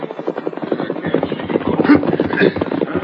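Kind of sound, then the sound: animal, horse galloping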